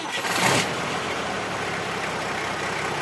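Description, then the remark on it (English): Tom Cruise's battered old mail truck engine catches with a brief rough burst, then settles into a steady, loud rumbling roar that carries on without a break, with no voices, as it slides over sandhills on the Birdsville Track to reach Birdsville with the Royal Mail. “And Tom Cruise in his battered old truck, roaring and sliding over humongous sandhills to reach Birdsville with the Royal Mail.”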